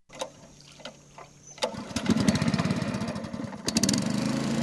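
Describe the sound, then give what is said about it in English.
The small outboard engine of a dugout canoe in the Peruvian Amazon jungle sputters through a few failed tries, then catches and roars into a steady, rapid chug, loud, with no voices. “The small engine on a dugout canoe finally catches.”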